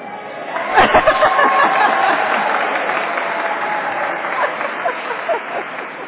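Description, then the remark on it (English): A large crowd claps and cheers steadily for several seconds, a dense wash of applause with a murmur of voices mixed in, swelling near the start and then holding at a fairly loud level. “Now, I don't know about you, but after the last 2 weeks of political party conventions, I'm conditioned like one of Pavlov's dogs to expect cheering crowds as soon as someone steps up to a podium.”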